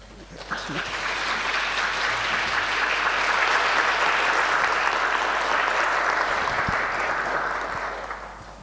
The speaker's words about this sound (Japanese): では歓迎の拍手を持って朝岡先生をお迎えいたしましょう。